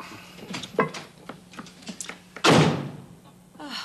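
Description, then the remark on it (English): A few light knocks and rattles lead up to one loud door slam as someone leaves for the store; it booms and rings out briefly before fading, with no talking. “Why does he always have to slam the door?”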